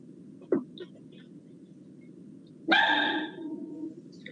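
A dog barks: one short sharp bark, then after a pause a longer, louder bark with a drawn-out whining tail, over a steady low background hum.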